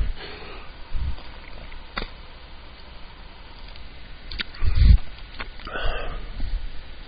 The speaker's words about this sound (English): Let me just get a sip here. Hold on.